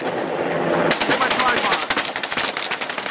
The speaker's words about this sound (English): The gunfire took a heavy toll on the government agents.